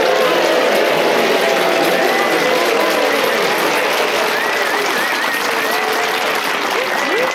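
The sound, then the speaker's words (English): A studio audience of the show Just a Minute applauds loudly and steadily for the four panelists Paul Merton, Sharparat Kosandi, Giles Brandreth and Josie Lawrence, with scattered whoops and cheers rising above the dense clapping throughout. “Please whoop and cheer for all four of them.”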